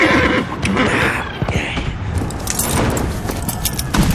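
A horse whinnies loudly while hooves clop in an uneven, busy rhythm, with a bright metallic jingle like harness tack rattling through the whole moment.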